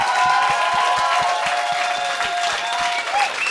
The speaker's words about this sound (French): Fait que je me sens mal, mais j'aimerais qu'on donne une bonne main d'applaudissement à mon co-animateur. Applaudissez-le. Voici Jean-Thomas Jobin.